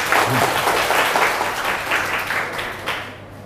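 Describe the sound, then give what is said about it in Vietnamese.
A burst of applause from a group after a Buddhist nun's presentation, many hands clapping in a dense, steady crackle that holds loud for a few seconds and then starts to thin out toward the end. “Phần trình bày á, rất là lưu loát, như vậy là có triển vọng trở thành pháp sư và dễ dàng xây dựng được chỗ đứng về niềm tin của mình đối với quần chúng, cho một tràng vỗ tay ha.”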